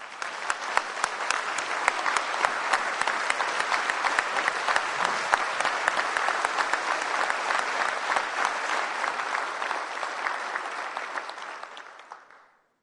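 Sustained audience applause, a dense steady patter of many hands clapping at even loudness for about eleven seconds before tapering off at the end. No one speaks over it.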